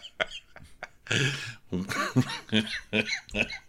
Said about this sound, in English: Cough laugh.